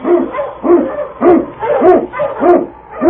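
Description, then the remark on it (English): A husky sled dog, King, the Eskimo lead dog from the radio show Challenge of the Yukon, barks repeatedly in a steady, insistent rhythm, about five or six loud barks with slightly whiny, yelping tones and no talking. “King, the swiftest, strongest of Eskimo lead dogs, blazes the trail through storm and snow for Sergeant Preston as he meets the Challenge of the Yukon.”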